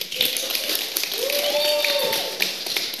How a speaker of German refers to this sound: Einen kleinen Applaus